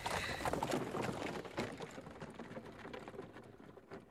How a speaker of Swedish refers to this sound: Vi vet att de packar ihop det sista på Villa Björkudden. De blir hämtade med hästskjuts.